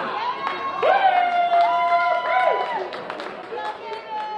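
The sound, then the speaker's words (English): A crowd of people in a restaurant and brewery cheers and yells together, several voices rising in sustained whoops and shouts, loud throughout, a final cheer marking Florida's crushing football victory over Ohio State. “Across town at the Ram Restaurant and Brewery, a final cheer heralded Florida's crushing victory over Ohio State.”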